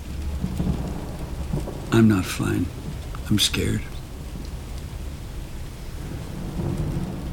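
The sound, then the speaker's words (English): Steady rain falls throughout with a low, continuous rumble, like a storm outside, while a person speaks briefly in a quiet, shaky voice over it. “Still raining out there.”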